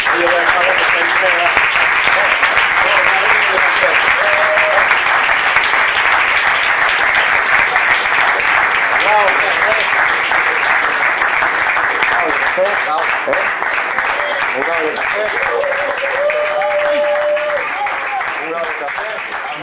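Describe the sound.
Sustained audience applause fills the space for about twenty seconds, a dense, steady wash of many hands clapping, loud, with faint voices and cheers mixed in.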